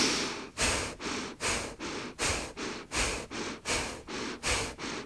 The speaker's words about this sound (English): And beginning your breathing, putting your shoulders far back, straightening your spine, creating that large cavern for the breath to be held. Gently start your breathing in and out through your nose.